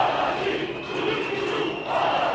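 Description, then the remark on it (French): A large protest march roars in front of the government headquarters in a dense, unbroken rumble, with shrill sustained whistles cutting through the steady din the whole time. “Arrivés devant le siège du gouvernement, les sifflets et les grondements se font entendre dans le cortège.”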